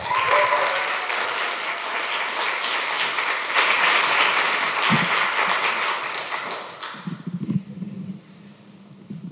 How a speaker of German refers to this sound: Und deshalb klatscht ganz fest in die Hände für die nächste Auftretende,